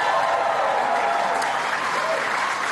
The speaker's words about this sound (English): Give them a big round of applause.